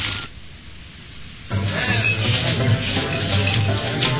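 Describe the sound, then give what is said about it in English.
A soft, muffled shuffle of footsteps in a game, walking to the Silver Dollar Saloon, gives way midway to a louder, rough wooden creak and rasp as the saloon's swinging door opens, with busy noise continuing to the end. “And it sounds like we're walking to it, opening the swinging door.”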